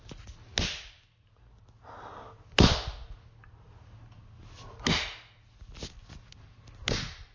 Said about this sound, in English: Yes, take it. Take my slaps.